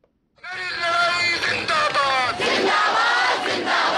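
A large crowd of protesters shouts and chants together, many voices overlapping in loud, sustained yells and cries with rising and falling pitch that continue without pause.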